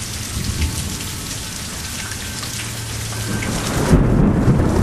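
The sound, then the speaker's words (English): Thunder from lightning about one mile away rolls in a low, continuous rumble through steady heavy rain, swelling louder near the end as a deeper crack-like boom builds, with no voices. “Lightning.”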